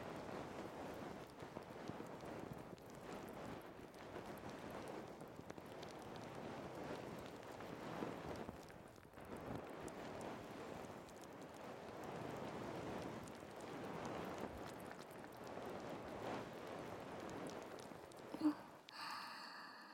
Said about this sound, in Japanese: 刺激的な炭酸泡マッサージ、もう少し堪能しておくんなまし。